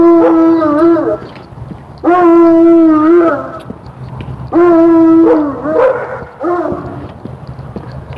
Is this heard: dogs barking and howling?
yes